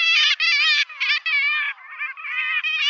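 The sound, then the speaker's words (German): Black-legged kittiwake, a mid-sized gull, calls in a rapid series of loud, nasal, harmonic-rich cries, repeated in quick bursts with brief gaps, slightly dropping then rising again in pitch. No talking. “Es ist die Dreizehenmöwe.”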